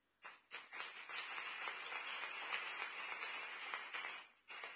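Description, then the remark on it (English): A crowd applauds steadily for about four seconds, many hands clapping into a dense, bright wash of sound with no voices, before it briefly drops off and picks up again at the end. “Can we clap for them?”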